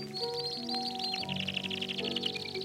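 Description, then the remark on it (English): A canary aviary sings in busy, rapid high trills and chirps, accompanied by sentimental piano music in steady sustained tones, with the slightly muffled, noisy quality of an old 78 RPM record. “This is one of those many recordings of some kind of canary aviary accompanied by some sentimental piano music.”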